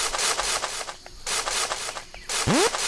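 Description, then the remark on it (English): A steady run of crunchy, scuffing animal footsteps, a pet wolf padding along in quick even rhythm as it walks alongside its owner in a game, broken by two short pauses, with a brief rising whistle-like sweep near the end. “You can hear my wolf is walking with me.”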